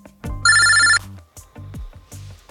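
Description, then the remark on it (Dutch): An electronic telephone rings as a man calls his ex-girlfriend: one loud, bright, trilling burst lasting about half a second, followed by a few softer, lower pulses repeating at a steady rhythm. No one speaks. “Bekijk in dit filmpje hoe Brian zijn ex-vriendin belt om te vertellen dat hij chlamydia heeft.”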